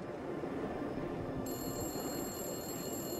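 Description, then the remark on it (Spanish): A payphone at a service station starts ringing about halfway through at 1:15 in the morning, a steady bright ring over a dense, rumbling background noise, with no one speaking. “Luego, a la 1:15 de la mañana, el teléfono público comenzó a sonar.”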